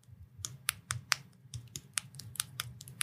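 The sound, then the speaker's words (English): A finger smacks against the eye area over and over, making about a dozen sharp, snappy clicks in an uneven rhythm over a low background hum, with no one talking. “I just use my finger to smack this part of my eye and it makes a really loud noise.”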